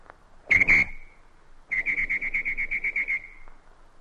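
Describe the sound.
A person imitates a traffic whistle using only their mouth: two sharp, shrill blasts, then a long rapid trill of pulsing whistle notes, loud, with no talking.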